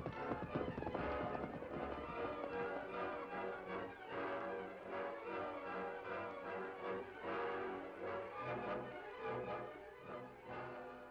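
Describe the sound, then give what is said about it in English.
Hooves clip-clop steadily on hard ground, a brisk rhythmic clatter of horses turning around and moving off with their riders, fairly loud, with a brief whinny in the mix and no talking. “Come on, turn your horse around.”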